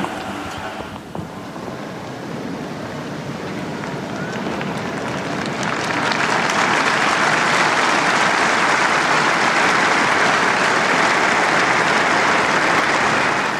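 Applause from a large crowd of pilgrims in St. Peter's Square thanking Pope Francis for his blessing, a dense steady wash of clapping that swells louder about halfway through and holds, with faint voices mixed in.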